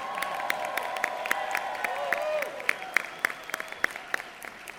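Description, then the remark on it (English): An audience at the NFV convention in the US bursts into sustained applause for the US ratification of the Marrakesh Treaty, dense irregular clapping with a few sharp claps standing out, with faint cheering and murmuring voices mixed in throughout. “Why don't we give us a very big applause?”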